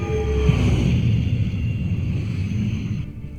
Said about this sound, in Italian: Si deforma prima di partire. E poi la famosa scia di pioni che uno può sentire, no? Questo motore a curvatura, qua che non c'è nella realtà,